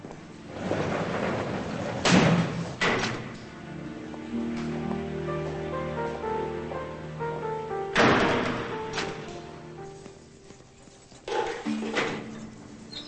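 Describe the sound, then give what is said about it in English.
A guard works a door open with a few heavy clunks, then it slams shut with a loud thud, all over a steady bed of sustained music. “A guard opens the door, and she leaves.”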